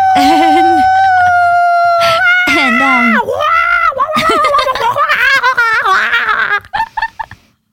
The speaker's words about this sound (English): You're screeching like that bird from The Little Mermaid over here.